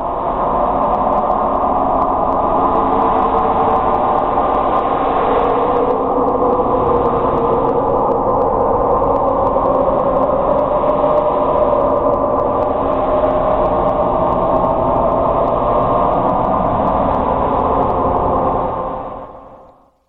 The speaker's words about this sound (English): But the leading theory is that it's related somehow to volcanic activity. So this was recorded by the Pacific Marine Environmental Laboratory using the underwater sound surveillance system, and this is called upsweep.